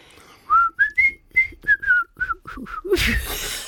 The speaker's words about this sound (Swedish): Du, jag kan ju inte ens vissla.